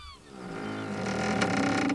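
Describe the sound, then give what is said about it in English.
A wooden sailing ship, the Jolly Jack, creaks in the middle of the ocean in long, groaning strains that swell steadily louder, with a faint gull-like cry at the very start and no voices. “and the creaking of a ship. We're aboard our sailing ship, the Jolly Jack.”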